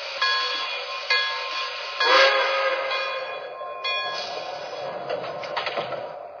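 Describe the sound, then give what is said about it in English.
The Broadway Limited, passenger train number 28, pulls out of a station on track one, departing for New York: a steady mechanical rumble with a whining tone, broken by a few sharp clanks and surges over about six seconds, with no voices. “Now departing for New York on track one. Train number 28, the Broadway Limited.”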